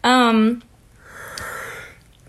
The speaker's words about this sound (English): I was just waiting for you to stop yawning. I'm sorry. It's okay. I'm not bored. I'm just tired.